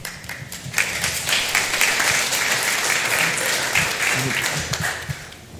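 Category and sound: crowd, audience applauding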